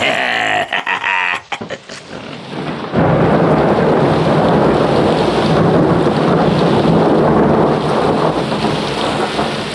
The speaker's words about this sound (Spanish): ¿Me zumban los oídos o empiezan a atacarnos? ¿Atacarnos? Esos estruendos parecen cañonazos. Son truenos, jefe. Parece que se nos echa encima una tormenta muy rara en esta zona.